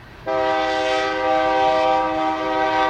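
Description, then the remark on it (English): A train horn sounds on the CSX railroad line on the west edge of downtown Benton Harbor, a loud, sustained chord that kicks in abruptly and holds steady for several seconds, with no voices. “The only reminder of the past on the west edge of Benton Harbor's downtown area is the CSX railroad line.”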